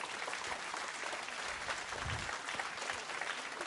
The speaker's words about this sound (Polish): Wiem, dlaczego klaszczecie, bo teraz będzie przerwa.